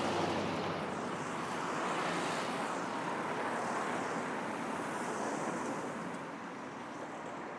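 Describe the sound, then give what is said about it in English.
A steady, dense roar of heavy road traffic fills the whole stretch, a broad continuous rush of passing vehicles with slight swells, loud, with no talking, heard at a curb where a person waits with their dog Vance to cross the street. “So much traffic. I don't think I can safely do it yet.”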